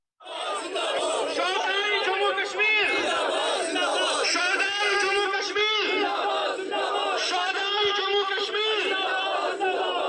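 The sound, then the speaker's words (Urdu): A large crowd of party workers and supporters of Mirwaiz Umar Farooq chants slogans outside his house in Kashmir, many voices overlapping loudly and continuously in rising, rhythmic cries that fill the whole stretch without pause. “میرواز کے گھر کے باہر جمع ہونے والے ان کی پارٹی کے کارکنوں اور حامیوں نے نعرے لگائے.”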